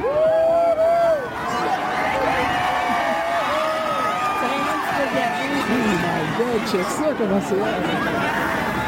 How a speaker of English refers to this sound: … met up with people in Sherbrooke's Jacques Cartier Park, where the sun and the moon drew big crowds.